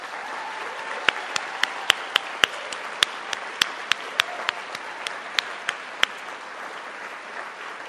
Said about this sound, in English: Please join us in a round of applause for all of our readers and all of our finalists.